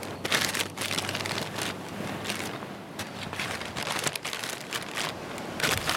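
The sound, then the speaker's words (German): Steady crinkling and crackling of a plastic bag carried by hand while walking along a beach in Bali collecting trash, with irregular sharp rustles over a dense hiss. Moderately loud, with no voices. “Mit einer Plastiktüte in der Hand gehen sie am Strand entlang und sammeln Müll ein, der mittlerweile für viele Strände auf Bali typisch ist.”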